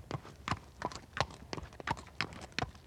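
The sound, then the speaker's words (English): Horse hooves clip-clop in a steady, even rhythm, about ten sharp hoofbeats at a walking pace, moderately loud, with no talking over them: a farmer's horse being ridden to town. “The next day, we go to the town on the farmer's horse.”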